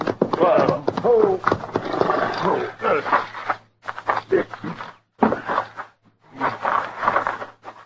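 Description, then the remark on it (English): Horses being stopped by their riders to rest, with snorting, breathy blowing and shuffling hooves in uneven bursts, separated by short pauses of near-silence. “So we better breathe our horses a little.”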